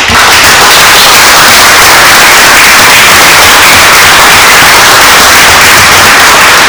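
Loud, sustained applause at a town council meeting, a dense wash of many hands clapping steadily for several seconds with no voices standing out.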